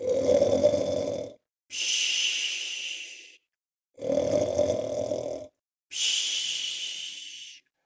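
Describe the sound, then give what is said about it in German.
Loud snoring in two full cycles: each rattling, rumbling inhale is followed by a long airy hiss on the exhale, with short pauses between. No one speaks. “Ui, ui, ui, oh Mann, was der laut schnarchen kann.”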